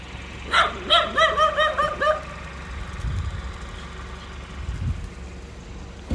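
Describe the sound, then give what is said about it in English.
A quick series of six or seven sharp barks from a dog, clustered in the first two seconds, followed by a low engine-like rumble with no voices. “Dogs. Are you good with dogs?”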